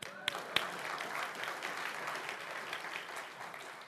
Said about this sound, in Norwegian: Men jammen fortjener vi en applaus alle mann